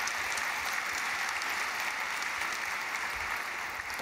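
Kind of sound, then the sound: crowd, audience clapping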